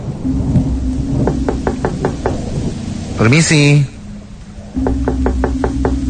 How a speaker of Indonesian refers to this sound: Ku ketuk pintu itu, tapi sama sekali tidak ada jawaban.